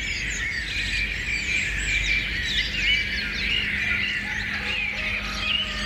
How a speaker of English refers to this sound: But we covered it up for you lot, the listeners, with some Birdsong. Yep. See, I'm not blagging it, here comes am I? The Birdsong. Okay, Birdsong and plot spoiler, please.